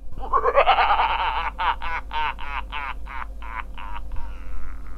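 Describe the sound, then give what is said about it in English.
A comic frog croak sound effect: a rising throaty call followed by a quick, evenly spaced series of about nine ribbity pulses, loud, with a low hum underneath and no speech. “I'll be back next week, of course, unless I ain't been turned into a frog.”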